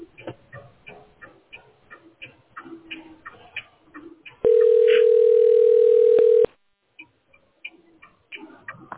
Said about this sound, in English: Well, no, somebody called on the real phone line.